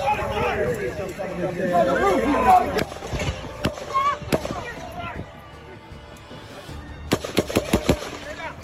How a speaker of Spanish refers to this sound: A continuación, te presento un video del atentado capturado desde la perspectiva de la multitud, donde podrás ver el momento en que el tirador dispara y es neutralizado por un disparo del servicio secreto.